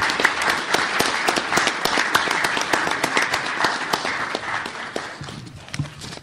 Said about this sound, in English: Do we have any of the newly tenured or promoted individuals with us in the audience? If not, let's give them a round of applause in absentia anyway.